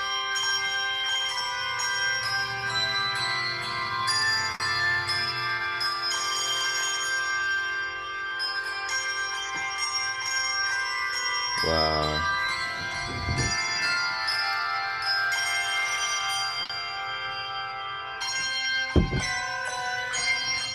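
Christmas bells ring continuously, a dense shimmering peal of many overlapping chimes sustained throughout at a steady, fairly loud level, with a few brief low thumps near the middle and end.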